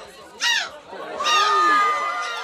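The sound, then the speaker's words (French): A woman from Dunkirk in northern France, winner of the world championship of seagull-cry imitation, imitates a seagull, letting out two loud, high, harmonic squawks, the second long and wavering, over a low murmur of crowd chatter. “Et elle fait tellement bien le cri de la mouette qu'elle a gagné le championnat du monde de cri de la mouette.”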